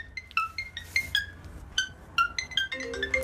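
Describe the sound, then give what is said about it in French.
A parakeet named Lucky imitates an iPhone ringtone, repeating bright chirpy tonal chimes in a quick rising-and-falling pattern, clear over a faint low background hum. “Enfin, au début, la perruche qui imite la sonnerie de l'iPhone.”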